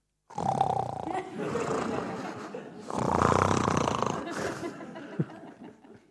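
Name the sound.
person imitating snoring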